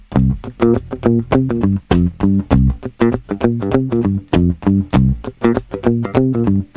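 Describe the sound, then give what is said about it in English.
A bass guitar played with a pick runs a steady, driving line of short low notes, each with a bright, clicky attack, loud with no one talking. “someone says, hey, would this sound better with a pick?”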